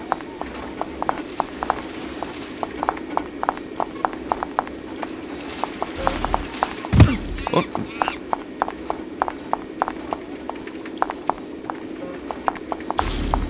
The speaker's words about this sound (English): So now we're following the professor to the monkey cages, and you'll notice that he's not whistling this time. So you really have to concentrate on his footsteps.